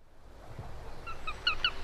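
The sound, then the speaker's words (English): A sparrowhawk gives a quick series of high, thin squealing calls in midsummer, about half a dozen in rapid succession, fairly clear against a quiet outdoor background with no talking. “In midsummer, listen out for the squeals of sparrowhawks.”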